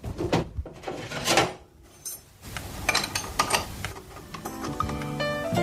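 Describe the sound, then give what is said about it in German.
Metallic clinks and scrapes as a wrench screws a water tap fitting back together after its washer was checked, a series of irregular knocks and rattles with brief pauses and no talking. “Dann schraube ich das Ganze wieder zu.”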